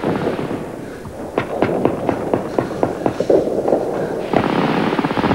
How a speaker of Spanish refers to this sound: Y de pronto, alguien dispara desde el otro lado.